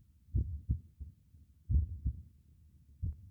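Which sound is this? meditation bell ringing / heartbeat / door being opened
heartbeat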